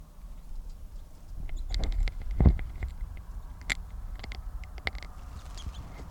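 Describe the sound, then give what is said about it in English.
Calls of a male crossbill with a left-crossing bill, by a cage near a net: short, sharp, high-pitched notes sounding one at a time at irregular intervals, mixed with soft clicks and rustling over a low background rumble, with no talking. “That bird will be number 664, male with a left crossing bill, and good toops on tape.”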